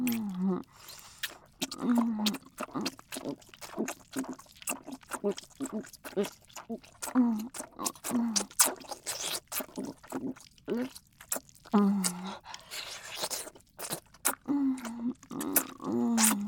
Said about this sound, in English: Your own boss suckling and slurping your desperate throbbing cock and balls for you.